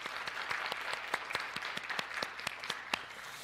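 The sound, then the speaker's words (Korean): A crowd applauds steadily for the mothers present on Mother's Day, a dense wash of many hands clapping with sharper individual claps standing out, sustained at an even loudness throughout with no talking. “우리 여기 계신 또각 가정에 있는 어머니들에게 박수를 한번 좀 해드리면 좋겠어요.”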